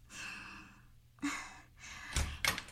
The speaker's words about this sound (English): I'll get dressed and answer the door.